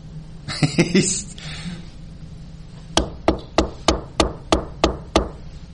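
Eight sharp, evenly spaced knocks on a door in a steady rhythm, following a brief rustling, scraping noise at the start and a short quiet pause.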